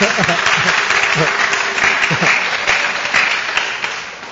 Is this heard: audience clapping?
yes